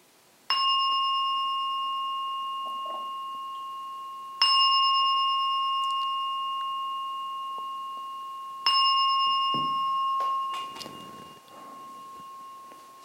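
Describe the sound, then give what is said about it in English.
A meditation bell is struck three times, about four seconds apart, each clear ringing tone sustaining and overlapping into the next, followed by faint rustling as the last tone fades. “So I'll ring the bell 3 times.”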